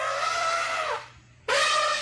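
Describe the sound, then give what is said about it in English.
An elephant trumpets twice: a loud, brassy, harmonic blare that slides downward for about a second, a brief hush, then a second blast that starts abruptly. No one speaks. “Isn't there something about an elephant's cry?”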